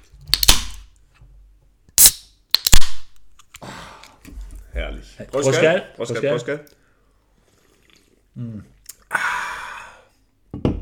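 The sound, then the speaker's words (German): Beer bottles are opened with several sharp, loud pops and a brief fizzing hiss, followed by glassy clinks for a toast, with some murmuring and a sigh in between. “Mein Bier ist noch zu. Tun wir mal anstoßen, oder?”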